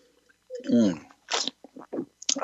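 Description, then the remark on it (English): Wet sipping and slurping of wine, a short voiced hum followed by several airy sucking bursts and small mouth sounds, fairly quiet. “Let me sip a little bit here.”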